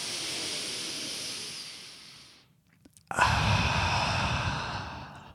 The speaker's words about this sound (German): wenn einem übel ist, musst du halt ganz tief durch die Nase einatmen, ungefähr so. Machen wir zusammen jetzt. Durch den Mund wieder ausatmen langsam. Genau, und das machst du ein paar Mal, dann geht die Übelkeit weg.